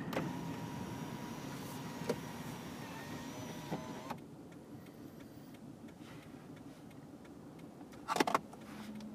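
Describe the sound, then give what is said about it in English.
Steady low rumble of a car driving, heard from inside the cabin, with a faint whine that drops away partway through and a brief rattling clatter near the end; no one speaks. “I am not going to because I'm driving a car.”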